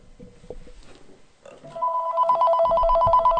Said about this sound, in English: Yes, the phone rings. How about that?